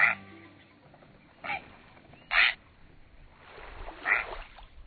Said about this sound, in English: That prehistoric-sounding call is from a great blue heron. This tall, stately bird is commonly seen standing alone on beaches, in marshes, on docks and pilings, even on tree branches, watching, waiting.